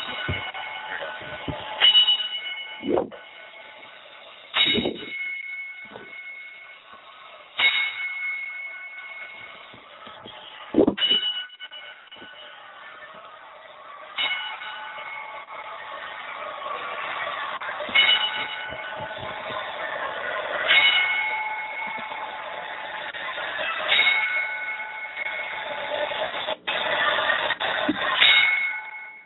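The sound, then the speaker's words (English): A bell is struck about ten times at slow, slightly uneven intervals as a ten-bell salute for Macho Camacho, each clang ringing on and overlapping the next, with no one speaking. “Okay, so there's your 10-bell salute for the Macho Man.”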